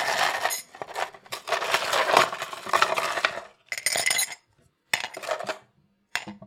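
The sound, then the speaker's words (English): Ice cubes clatter and clink into a cup in a busy cascade, followed by a few shorter bursts of rattling with brief silent gaps between them. “And I've got my ice.”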